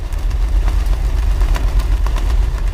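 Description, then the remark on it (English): A passing freighter ship's engine drones in a deep, steady low rumble, overlaid with faint irregular ticking pulses and a broad hiss, continuous and fairly loud with no voices. “Now consider the noise of a passing freighter.”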